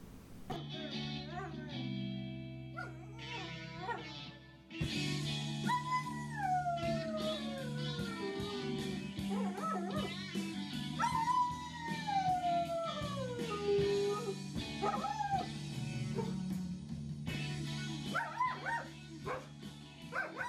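A dog howls along to a loud rock song, its long wavering cries sliding up and down in pitch over the driving guitar and drums, with a few yips in between.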